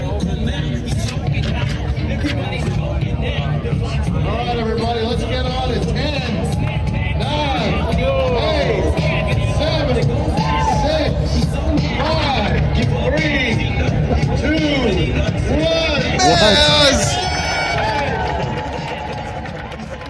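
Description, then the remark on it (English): A huge crowd at a rally murmurs steadily, countless overlapping voices forming a dense, continuous hubbub that swells briefly louder near the end. “No, that crowd is huge.”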